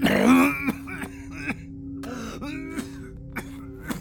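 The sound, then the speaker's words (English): A voice gives a harsh, throaty growl followed by a series of short rasping coughs and throat-clearing bursts, fairly loud, with no speech. “growled and coughed, then started over.”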